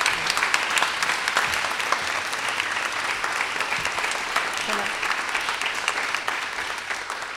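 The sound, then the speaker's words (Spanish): Steady applause from a group of people, a dense rapid patter of claps that holds at an even loudness for several seconds without letting up. “Yo propondría a los oyentes y a ustedes un aplauso, cosa de que esto ocurra realmente, porque la confirmación va a venir, ¿eh?”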